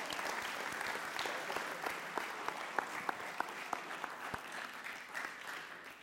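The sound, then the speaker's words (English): A church audience claps hands together during a sermon in a steady wash of applause, individual sharp claps popping out above the dense, continuous patter for about six seconds, with no voices. “So let's clap our hands right now.”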